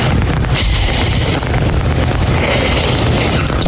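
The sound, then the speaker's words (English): A large crowd of home fans boos one of their own team's players loudly and continuously, a thick, droning roar of many voices that holds steady for the whole stretch without breaks, with no one speaking over it. “he was asked why he was getting so emotional about the boos from the fans”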